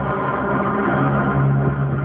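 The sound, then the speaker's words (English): The 12-cylinder, 1,200-horsepower diesel engine of a 62-ton Challenger 2 tank runs steadily, a loud, continuous low rumble with a droning hum that holds an even level throughout, with no voices. “It has a 12-cylinder diesel engine which produces 1,200 horsepower, and that's enough for a top speed of nearly 40 miles an hour.”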